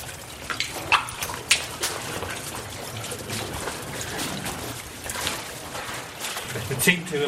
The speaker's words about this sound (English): A strange way to spend a Sunday afternoon splashing around in water in the dark.